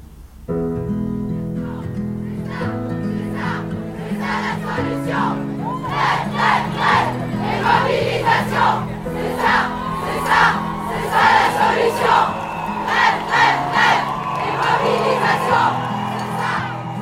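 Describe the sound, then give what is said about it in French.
A crowd chants at a feminist strike street protest in Switzerland on 14 June 2019, many voices shouting in rhythmic bursts over a steady, low droning backdrop. The din stays loud and continuous throughout. “Je suis allée à une manifestation en 2019, du 14 juin, parce que les grèves féministes en Suisse sont le 14 juin.”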